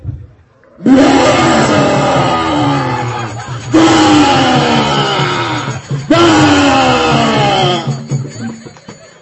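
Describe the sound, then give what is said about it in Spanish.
Three long, loud roars coming from a pillar follow one another back to back, each a harsh, rumbling bellow lasting a couple of seconds. They are powerful, with no talking. “And then coming from the pillar, there was a big roar.”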